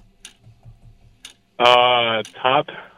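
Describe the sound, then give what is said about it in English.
A game show timer clock, set to 30 seconds, ticks steadily about once per second. The sharp clicks are soft at first, then partly buried when a loud voice cuts in over the second half. “All right, we're going to put 30 seconds on the clock.”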